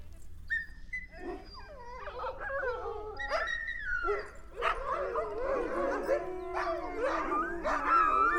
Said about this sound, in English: Ugh, what's with all the barking? I can't even see anything. These dogs must have just seen a cat. But the dogs kept barking all night, and all of the nights to follow for 1 month.